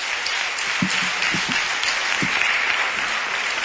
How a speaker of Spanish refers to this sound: Un aplauso. Muchísimas gracias.